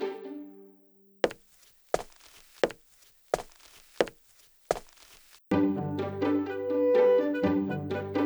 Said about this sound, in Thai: แต่ทันใดนั้นก็มีเสียงคนเดินเข้ามา